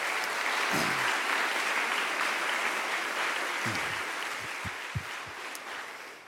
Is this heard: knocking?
no